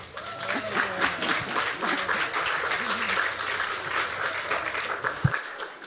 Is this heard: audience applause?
yes